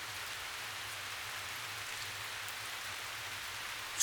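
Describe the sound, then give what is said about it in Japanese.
Steady rain falls throughout, a dense, even hiss of drops with a faint low hum beneath, ending in a sudden louder burst at the very end. No voices are present. “こちとらみてえな悪党には通用しねえ雨だよ。”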